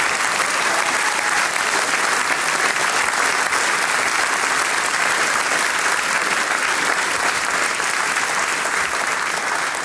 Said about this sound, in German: Und jetzt möchte ich Ihnen jemanden vorstellen und ans Herz legen, der heute an meiner Seite ist auf der Sänger-Musikantentreffen-Bühne. Und sie bekommt jetzt einmal einen großen Applaus.